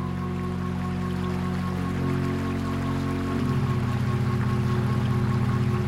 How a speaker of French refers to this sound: Le vent souffle sur l'eau de la rivière. Elle ondule doucement devant moi. L'eau coule et ne s'arrête pas.